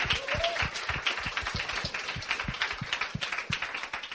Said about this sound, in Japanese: 今ちょっと神様に拍手と皆さんに拍手したいと思います。 So let's give a hand to God.